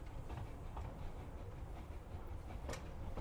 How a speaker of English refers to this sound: as the train sort of goes, you don't feel the normal rock or push. It just feels like the train glides around.